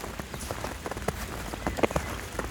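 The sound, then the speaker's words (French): Water droplets from melting snow patter on wet leaves, with a carpet of fresh snow, in an irregular stream of soft, crisp ticks and splashes, a few sharper drips standing out over a steady, hissing wash of moisture. “Ces sons de fonte agréables, gouttelettes d'eau, feuilles humides, mouillées, tapis de neige fraîche.”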